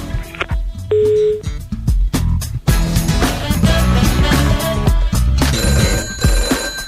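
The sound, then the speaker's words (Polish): A telephone rings for an incoming call, its bright tones repeating loudly over a dense, busy backdrop of layered electronic sounds, with no one speaking. “Kolejny telefon, kolejne ogłoszenie, proszę bardzo.”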